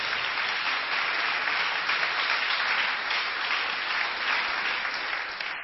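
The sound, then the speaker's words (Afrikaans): A crowd applauds a singer steadily, a dense wash of many hands clapping at an even level throughout, with no voices breaking through before it tapers slightly at the end. “Vriende, klap weer hande vir”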